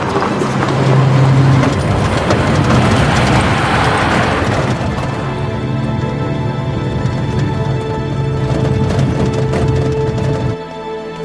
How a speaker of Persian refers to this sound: حاتم با ماشین توی جاده است.